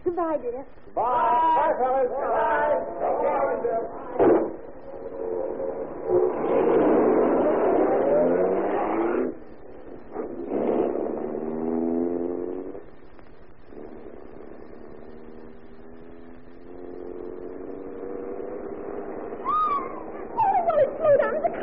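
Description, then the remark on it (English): A car engine revs and drives on, its steady hum surging and easing in loud bursts while voices talk over it throughout. “There's a car coming down the highway.”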